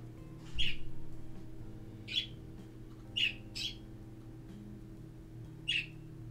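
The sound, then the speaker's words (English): Five short, sharp bird squawks and chirps at irregular intervals, two close together near the middle, standing out over a steady low background hum with no talking. “Keep the birds some company, hon.”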